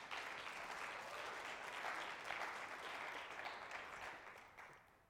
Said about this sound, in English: Let's give the Lord a good clap offering here this night.